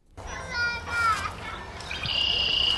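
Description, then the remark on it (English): Children's voices chatter and call out outside the visitors hall of the Schlitz Audubon Nature Center in Bayside, Wisconsin, just north of Milwaukee, while birds chirp and whistle overhead, with a steady high bird trill near the end rising above the busy background. “Children and birds sound off outside the visitors hall at the Schlitz Audubon Nature Center.”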